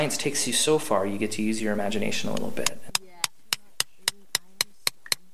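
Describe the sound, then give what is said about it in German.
A voice speaks at first, then a steady series of about ten sharp, ringing taps follows as about a dozen people, mostly tourists, work a piece of rock with brushes and hammers at a dig in Dinosaur Provincial Park. The taps are evenly spaced. “Hinter dem nächsten Hügel hockt ein Dutzend Personen und bearbeitet ein Stück Fels mit Pinseln und Hämmern.”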